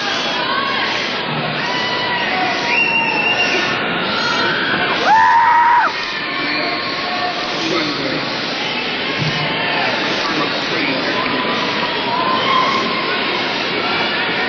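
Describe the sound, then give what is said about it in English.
A large concert crowd yells and screams steadily as a performer is about to play a quiet song, a dense, loud roar of many voices, with a brief shrill whistle-like cry rising above it partway through. “This is quiet, and if you yell, you'll miss it.”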